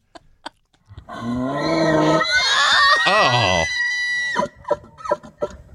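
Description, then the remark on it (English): An elk's mating bugle: a long, shrill, rising squeal that climbs and wavers for about three seconds before breaking off, followed by brief exclamations from people. “You ever heard an elk do its... mating call?”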